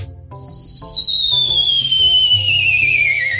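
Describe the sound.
A loud, piercing human whistle holds one long, shrill note that slides steadily downward in pitch for about three seconds, with faint low tones murmuring underneath.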